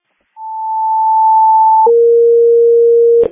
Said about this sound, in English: Crystal Lake, supervisory alarm. Testing tones, 8705, Bard Road, 344, 2, time 1233.